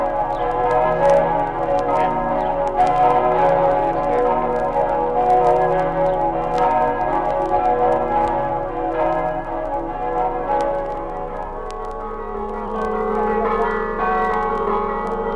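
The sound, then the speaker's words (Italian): Church bells peal continuously, several bells overlapping in a dense, ringing wash that stays steady and fairly loud throughout, with no voices. “Abbiamo trasmesso Friuli nel mondo, campane del Friuli”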